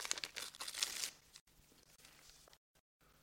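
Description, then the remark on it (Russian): Paper crinkles and tears in a quick burst of rustling for about a second as a packet from Prince Potemkin, brought by a soldier, is opened, then fades to soft handling noises and near silence. “Пакет вам. Давай сюда.”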